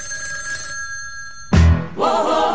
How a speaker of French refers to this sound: C'est le réveil par téléphone.